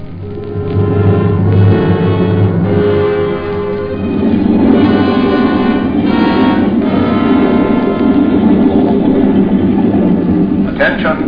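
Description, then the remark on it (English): The engines of many motorboats gathered at Ramsgate at night drone steadily and loudly, a thick low rumble with chugging overtones that holds unbroken for about eleven seconds, sounding all around. “Attention, everyone. Switch off your motors. Nobby, cut the motor.”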